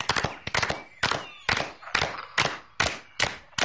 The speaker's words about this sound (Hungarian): Tapsoljuk meg tehát Egér kisasszony kedves meséjét. Szívünkből köszönjük.